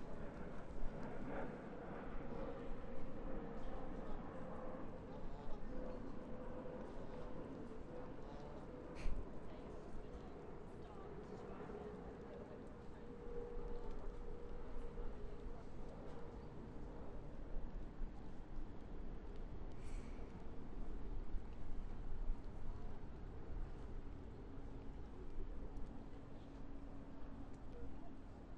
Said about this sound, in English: wouldn't say it's at high tide, it's probably at sort of mid to high tide. It's sunny, sound of wildfowl in the water, lapping water, train going across the bridge a moment ago, aeroplanes overhead. That's about it, really.